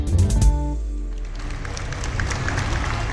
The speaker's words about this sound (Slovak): Veľký potlesk dnes zaznel na námestí svätého Petra, kde sa prišlo 250 tisíc ľudí rozlúčiť s pápežom Františkom, ktorý zomrel v pondelok 21. apríla.